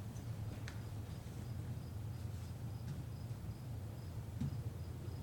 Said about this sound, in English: How apropos we have crickets.